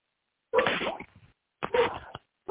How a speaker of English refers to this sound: The dog saying amen.